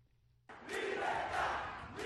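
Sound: protest crowd shouting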